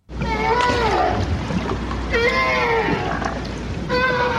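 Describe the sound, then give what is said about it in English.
A North Atlantic right whale calls underwater: a few drawn-out, harmonic moans that bend and sweep in pitch, separated by short pauses, over a steady low hiss and rumble of water. “The call of a North Atlantic right whale.”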